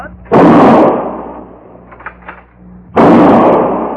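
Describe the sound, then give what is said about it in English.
Two loud gunshots fired at a crow, about two and a half seconds apart, each a sharp blast followed by a long, rumbling decay, with faint brief sounds in the quiet gap between them. “You ain't a very good shot, are you? You knew that crow would fly away.”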